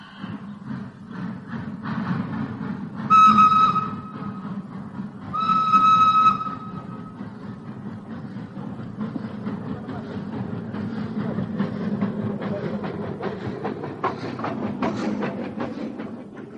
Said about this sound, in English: Please take your seat, miss. The train is leaving now.